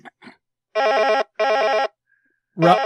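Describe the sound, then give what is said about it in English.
An old-fashioned 1980s-style telephone rings twice, each long burst a harsh, buzzy trill with a brief gap between, bracketed by short faint noises and a louder rustle at the end. “Dude, I totally hear his phone.”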